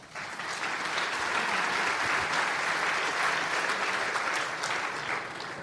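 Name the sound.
audience applause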